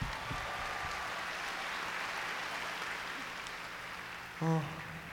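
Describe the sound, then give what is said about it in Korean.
An audience applauds the band's chorus singers steadily for about five seconds, a dense, even wash of clapping that eases slightly toward the end, where a short voiced sound cuts in briefly. “이분들한테 정말 아낌없는 박수 한 번만 더 부탁드립니다.”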